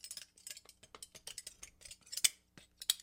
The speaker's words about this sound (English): You take them in your hand, like this, and we play them. I'll go first. Spoon man! Play the spoons with your hands.